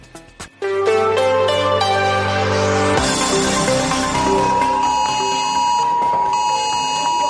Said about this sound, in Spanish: Este sonido que escuchan ha sobresaltado a muchos gaditanos sobre las 6 de esta pasada madrugada. Es un aviso por la alarma de terremoto que muchos tienen instalados a través de una aplicación en su móvil, aunque no lo sepan.